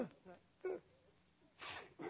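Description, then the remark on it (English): A few short vocal bursts build up and end in a loud, breathy sneeze near the end, followed by another quick burst of voice. “Gesundheit.”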